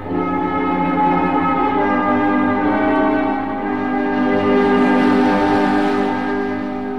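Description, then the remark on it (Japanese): A train on the Odakyu Line near Sagami-Ono station, halted after a person was struck, gives off a loud, sustained tonal sound rich in harmonics, holding steady for several seconds with a slight swell midway, with no voices. “ただいま人身事故のため停車しております。”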